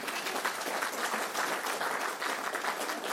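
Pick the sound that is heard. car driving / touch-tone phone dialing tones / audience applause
audience applause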